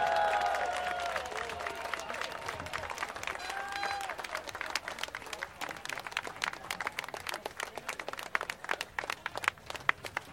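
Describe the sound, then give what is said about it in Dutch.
A large audience at a May 1 FNV gathering breaks into sustained applause welcoming Hans Spekman, the new FNV chairman: dense rapid clapping with some cheering and whoops early on, continuing steadily for about ten seconds with no one speaking over it. “Dus ik wil heel graag een keihard applaus voor Hans Spekman!”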